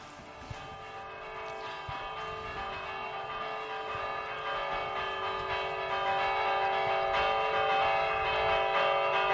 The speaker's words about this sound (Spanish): Estas campanas, Joaquín Díaz, son repique. Sí, esto es un toque de fiesta